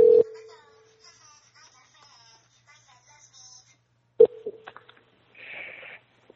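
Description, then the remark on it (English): A phone rings with a loud, steady electronic tone burst, then rings again about four seconds later, followed by trailing chirpy warbles and a brief hiss. “My phone is ringing. I wonder who it could be.”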